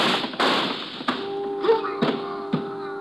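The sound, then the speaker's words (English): A rapid, irregular volley of about six sharp gunshot cracks fired on a pier, hitting a man in the stomach. Each is a loud, abrupt burst, with a steady low tonal hum ringing underneath after the first few shots. “The shots came from my left, and I can hear someone running along the pier.”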